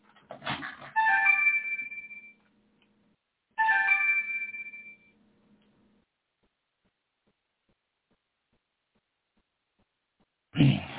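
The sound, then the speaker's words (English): A phone ringtone plays two melodic bursts a couple of seconds apart, fairly loud, as somebody calls the phone again, followed by silence and a brief thump at the end. “Somebody called my phone again.”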